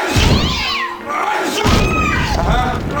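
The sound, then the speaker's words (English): A cat meows loudly, a few drawn-out, wavering yowls in quick succession, with some low rumbling thuds underneath. “Do you have a cat?”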